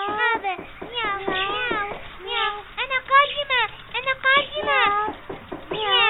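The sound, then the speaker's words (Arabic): A voice imitates a cat's meow several times in a row, with drawn-out, rising and falling tones, fairly loud. “نعم يا نعم يا أمي، مياو”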